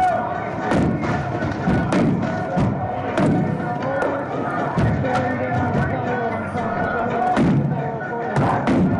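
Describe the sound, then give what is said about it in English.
Heavy demolition noise as a building is torn down and its protective covering torn away: repeated loud pounding thuds and crashes at irregular intervals over a constant rumbling, grinding background, with scattered crowd-like voices mixed in. “Yeah, they're just tearing it away. Pounding. Sound a little loud there.”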